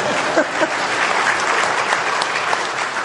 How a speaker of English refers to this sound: Come on, don't I get an applause for that?